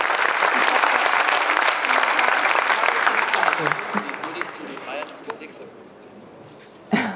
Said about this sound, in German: Also dieser junge Mann hat mitgemacht und der kriegt einen großen Applaus dafür.